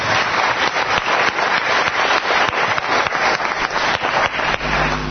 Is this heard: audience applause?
yes